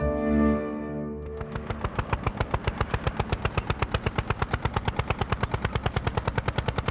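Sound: tractor engine chugging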